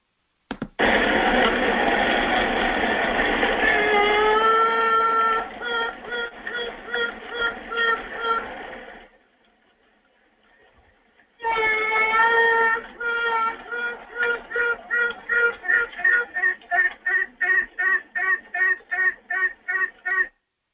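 Honeybees buzzing inside a hive in a bee yard at night, heard with an ear to the hive: a loud, dense hum with steady tonal notes, and a distinct piping and quacking song, that turns into rhythmic pulsing, goes quiet for about two seconds, then returns with quickening, regular pulses.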